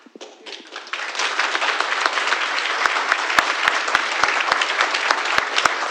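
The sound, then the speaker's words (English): Audience applause at an Ipsy Township meeting about a data center swells within the first second into a dense, steady wash of many hands clapping, sustained to the end, with a few sharp, louder claps popping out. “In order to make this efficient, if we would hold the applause and get through so we can listen to everyone.”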